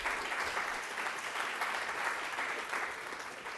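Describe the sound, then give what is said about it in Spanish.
Sustained audience applause to open a conference by a female doctor, a dense steady patter of many hands clapping at moderate volume for several seconds, with no voices rising above it. “Después de leer este gran currículum, les pido un aplauso para dar inicio a la conferencia de la doctora.”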